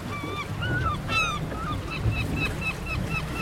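Seabirds call again and again in short, honking cries, some overlapping, over a steady rush of wind and surf at the Riou archipelago. No one speaks.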